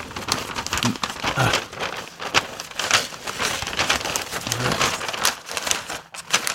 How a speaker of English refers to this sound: Does it matter which way I rip it? I don't think so, just start pulling. Man, why is there so much paper on this?